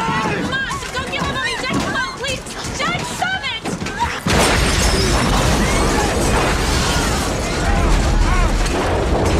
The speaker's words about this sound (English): An explosion. Some kind of an explosion.